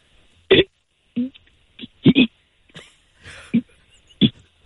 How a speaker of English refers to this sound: you have an interesting and unique skill. You can burp the alphabet. Wow. I can. Okay, I'm not going to make you do all 26 letters, but can you take me to like G?